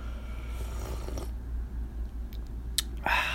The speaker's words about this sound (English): Let me just sip my tea.